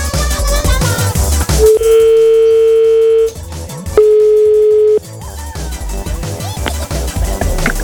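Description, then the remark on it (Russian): A telephone ringback tone sounds twice while a call is placed live on air, steady electronic beeps over a busy music bed, the first about a second and a half long, the second shorter after a pause. “Мы звоним из эфира, так, на всякий случай, чтобы там матерок не проскочил, обычный начальнический, да, как обычно, руководящий.”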